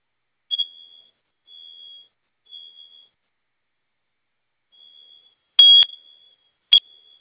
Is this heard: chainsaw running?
no